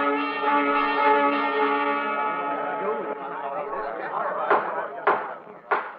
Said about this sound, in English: And the day of his trial brought forth milling crowds of the outlaw faction, determined to take the law into their own hands should the judge render a verdict in favor of Wyatt Earp.